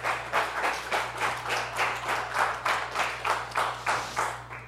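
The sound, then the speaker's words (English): An audience claps their hands to the Lord during a sermon, in a steady, unified rhythm, roughly two to three beats per second, with a constant low hum underneath and no voices. “How many can clap your hands to the Lord?”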